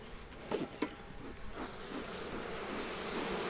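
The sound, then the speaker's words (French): A dense, steady drone of many honeybees buzzing inside a hive, continuous, with a few brief louder crackles and rustles early on. “Donc on met sa tête dans la ruche. On se fait un petit dialogue avec les abeilles qui te touchent, qui te sentent, qui te lèchent, qui te piquent pas, bien sûr.”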